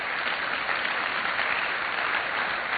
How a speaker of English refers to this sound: And now Paul, amen, you can clap about that. It's worth clapping about.